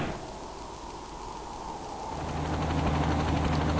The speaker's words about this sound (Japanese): 支援の、ヘリが来た。